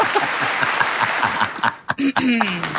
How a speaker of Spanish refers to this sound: Volvió la gente a aplaudir. Está bien. ¡Bravo! ¿Esos aplausos o lluvia?